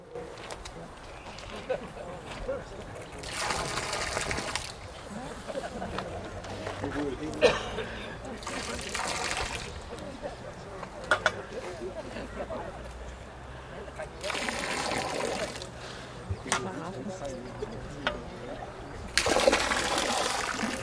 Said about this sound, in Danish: Og med disse ord, så vil jeg gerne bede jer om med stor andægtighed at hælde vandet fra Tarm Bybæk ned i Kirkeå.